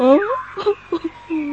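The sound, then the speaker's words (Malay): A person whimpers and sobs, a wavering, drawn-out cry followed by a few short, broken catches of breath and another low moan. “Kenapa kau menangis? Tak ada gunanya kau menangis.”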